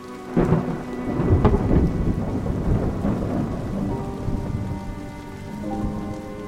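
Heavy rain pours steadily at night while deep thunder rumbles and rolls, the raging storm loud and continuous with no voices.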